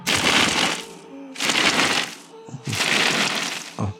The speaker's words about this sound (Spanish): Los primeros disparos de arpones suenan como estallidos de aire comprimido en la masa submarina.